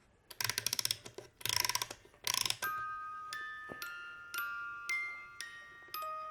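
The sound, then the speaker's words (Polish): The little doors of a clockwork toy shop closing and then slowly opening, like a cuckoo clock: three short bursts of rapid ratcheting clicks, followed by a series of soft, ringing metallic chime notes that fade one after another. “Drzwiczki się teraz zamykają. Teraz się otwierają powoli.”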